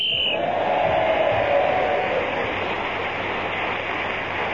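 A short, high whistle blast ending a round of a panel game sounds at the very start, then gives way to a steady, broad roar of noise that continues loudly for several seconds.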